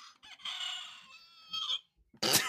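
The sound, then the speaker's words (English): A battery-powered toy rooster that is running out of battery lets out a long, strained electronic crow. Its wavering pitch sags and stutters as it runs down, ending in a short burst of hissy noise. “My rooster is running out of battery. Chicken is dying over there.”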